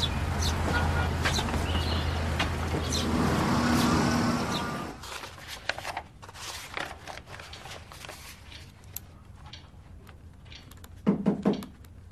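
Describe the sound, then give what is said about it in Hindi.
A car engine rumbles steadily for a few seconds and then cuts off as the car is parked, leaving a quiet outdoor scene with scattered clicks and birds chirping. “मैं गाड़ी पार करके अभी आता हूँ।”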